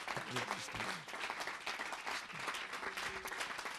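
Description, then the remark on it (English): A large group claps their hands together unto the Lord in a dense, sustained, loud wash of applause, with faint voices murmuring underneath. “I want you, if it's possible, just to clap your hands and listen to that sound like you've never heard it and do it unto the Lord.”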